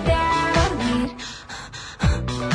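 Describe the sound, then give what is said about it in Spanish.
Breathy, rhythmic panting in a song: a few loud gasping vocal breaths, some sliding in pitch, with airy exhalations between them and music behind. “Esa parte le puso jadea, le puso jadeo.”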